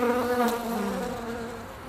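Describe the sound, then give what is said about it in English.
A steady, buzzing hum of busy bees in a wood drones continuously with a slightly wavering pitch, moderately loud, with no voices present. “He sat on the wood's floor, leaning against a tree, watched the ants and their work, and listened to the humming of the bees, which were also very busy.”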